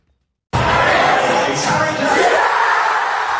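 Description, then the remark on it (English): A crowd of football fans around England bursts into loud, sustained cheering after a brief silence, following Harry Kane's penalty kick equaliser in England's European Football Championship semi-final against the Netherlands. It is a dense roar of shouts and yells that stays at full volume without a break. “Fans around England erupt in cheers following Harry Kane's penalty kick equaliser in the national team's European Football Championship semi-final against the Netherlands.”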